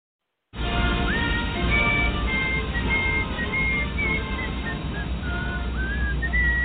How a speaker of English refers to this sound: Will you stop whistling, please? I'm trying to sleep over here.